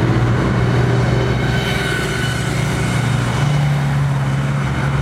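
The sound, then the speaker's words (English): A bus rumbles past, its heavy engine drone loud and steady, with the low hum shifting in pitch partway through as it goes by. No one speaks. “Oh, there's a bus.”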